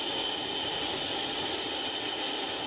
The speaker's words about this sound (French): Et bien maintenant, écoutez ce nouveau type d'avion conçu par la société Jetoptera.